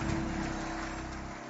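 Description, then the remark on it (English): A crowd applauds steadily for the First Lady of Covenant Nation, a dense, continuous wash of many hands clapping at once that holds at an even, loud level throughout with no voices standing out. “Clap your hands, please, for First Lady.”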